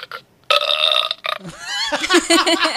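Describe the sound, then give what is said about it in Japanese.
A loud, drawn-out burp, followed after a brief pause by a second, longer and more gurgling burp, as if answering the first. “すごい、 ゲップ返し”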